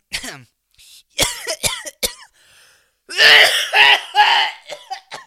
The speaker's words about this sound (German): Entschuldigung, eine kleine Husterfakiritis.